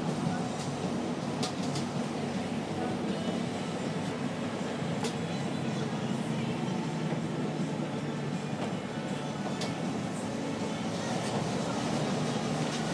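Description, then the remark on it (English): Steady low rumble and road noise from inside a moving city bus in Copenhagen, heading to a hotel, continuous and fairly loud throughout, with a few faint clicks and rattles over the drone. “Managed to blag my way onto through the metro onto a bus. I'm on my way to the hotel.”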